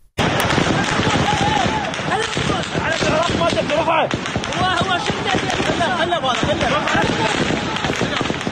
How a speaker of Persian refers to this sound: نیروهای امنیتی در نهایت با تیراندازی هوایی توانستند معترضان را وادار به عقب نشینی کنند.